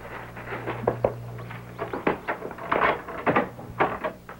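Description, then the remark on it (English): A key rattles and clicks in a front door lock, followed by a latch clunking and the door creaking open, a series of irregular metallic knocks and scrapes with no voices. “I had an extra key to the front door made over at Concord.”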